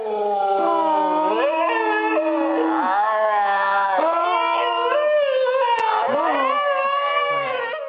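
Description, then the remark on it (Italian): Several wolves howl together in a loud, continuous chorus, their long wavering tones rising and falling and overlapping for the whole stretch, with no speech. “L'ululato è un richiamo del lupo, ma è anche un'affermazione della sua presenza, la presenza di un branco in un determinato territorio.”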